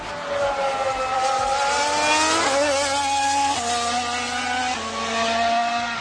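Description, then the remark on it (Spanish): A Mercedes Formula 1 car engine screams loudly and steadily, its pitch climbing then dropping sharply at several quick gear shifts, with no voices over it. “Así que a ver a qué coche corresponde este motor.”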